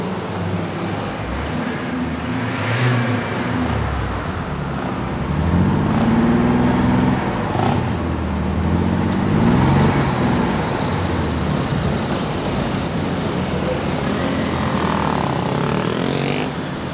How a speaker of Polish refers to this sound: każdy dźwięk w sobie ma jakieś cechy, które mogą być interesującym tworzywem, więc jeżeli byśmy się na przykład wsłuchali w silniki, każdy z tych silników ma jakąś swoją indywidualną sygnaturę dźwiękową.